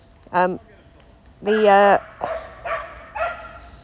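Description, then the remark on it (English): A dog in a park barks loudly: one sharp bark, then a longer drawn-out yelping bark, followed by three quicker barks in an uneven rhythm. “Very noisy dog suddenly come into the park.”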